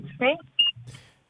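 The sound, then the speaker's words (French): A single short, high electronic beep from a car cuts in sharply between snatches of voices, fairly loud, lasting only a fraction of a second. “Oui, parce qu'il y a un bip, hein, si ça vient de votre voiture, si vous pouvez faire arrêter le petit bip qu'on entend là.”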